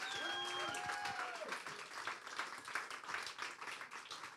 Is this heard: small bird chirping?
no